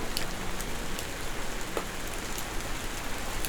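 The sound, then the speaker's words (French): A light rain shower falls steadily at night, a soft continuous patter with scattered drops tapping, with no voices or other sounds. “Une légère ondée de pluie.”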